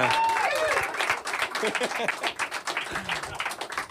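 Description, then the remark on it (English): An audience claps steadily for several seconds after a band's live performance, a dense crackle of many hands, with cheering and whooping voices rising over it at the start. “I was worried about the booster juice screwing up the clapping, so I'm just going to give the warning to the listeners.”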